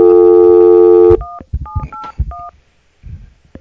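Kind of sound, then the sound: signal or alarm, telephone number being dialed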